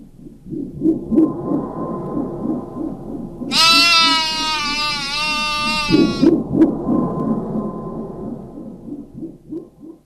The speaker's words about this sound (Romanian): și ea, cu meșteșugul ei, a transformat-o pe mașteriță într-o capră. Capra aceasta pe care o vezi aici.